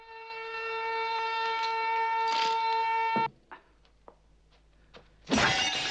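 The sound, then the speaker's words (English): A steady, ringing alarm-like tone stops abruptly, followed by a few scattered clicks and taps, then a loud, sudden crash of a glass display case shattering at the end as an attacker barges Bond into it. “The attacker kicks the sword away and barges Bond into a glass case.”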